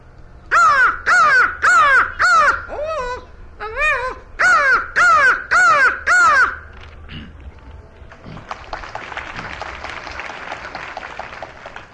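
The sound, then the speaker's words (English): A crow caws loudly, about ten harsh calls in quick rhythmic bursts with a brief pause midway, followed by a steady wash of applause-like noise. “In other words, you'd think a crow of all birds would not be able to talk, but he can talk certain words and sentences as good as a parrot can.”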